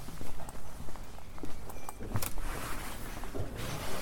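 Steady footsteps of people walking outside on a hard outdoor surface, with a regular walking rhythm and a few sharper scuffs amid light ambient noise.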